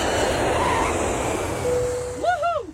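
jet airplane flying overhead

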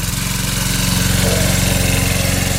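lawn mower running

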